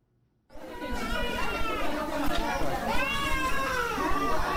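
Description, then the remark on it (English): Nine infants wail at once at the Kolofata Central Mosque on Cameroon's northern border with Nigeria, their overlapping cries rising and falling continuously and loudly over a busy background of crowd noise, starting abruptly after a brief silence. “Nine infants cry for assistance at the Kolofata Central Mosque on Cameroon's northern border with Nigeria.”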